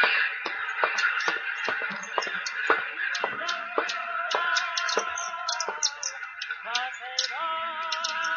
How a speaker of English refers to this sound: The sound of many bodies pressed together, shuffling on the sills. Now and again, a thud, a crash, as some birds dived and fell. Many would kill themselves that way.